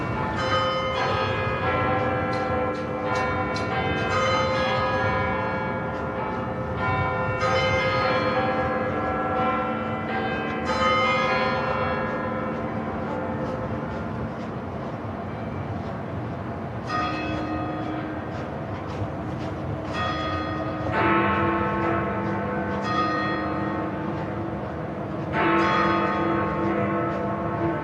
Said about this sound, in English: And before Big Ben was built in 1859, it was like the clock of London. So it's very nice to actually have a live duet between the Horse Guards and Big Ben.